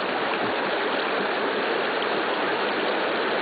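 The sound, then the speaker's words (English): Gas from a natural gas seep bubbles up through shallow creek water in a steady, continuous fizzing gurgle, a dense watery hiss that never pauses, with no voices. “Now, the whole seep's not covered. It's still bubbling all around us.”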